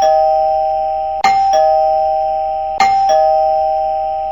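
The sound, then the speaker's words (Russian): A doorbell rings twice in a row as a militia officer rings at an apartment door, each press giving a sharp two-note ding-dong over a steady, humming electronic chime tone, with no voices. “Милиционер сделал еще несколько звонков.”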